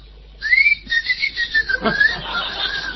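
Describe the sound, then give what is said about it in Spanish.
A person whistles, imitating the whistle of a whistling louse: one long, thin, wavering tone that starts abruptly and carries on for a few seconds, with no talking. “Y eran los piojos chifladores.”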